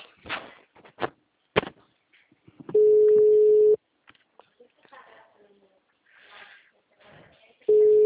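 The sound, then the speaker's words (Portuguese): A telephone busy signal: a steady electronic tone sounds for about a second, drops out, then returns near the end, with soft clicks and faint background noise in between. “O número está ocupado.”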